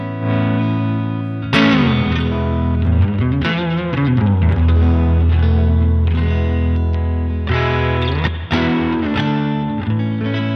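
An electric guitar played through a Boss Reverb pedal on a pedalboard, with chords and single notes ringing out and washing together in a spacious, sustained tail. Fairly loud, with no talking.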